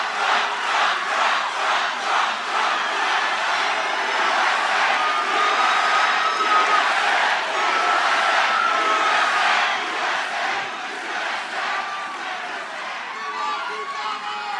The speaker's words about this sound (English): The crowd breaks out in chants.